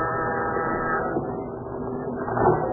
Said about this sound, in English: As you press the door buzzer, you wonder what Pat had found out.